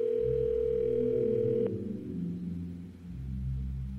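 telephone line ringing tone

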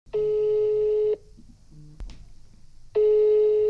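telephone ringing tone

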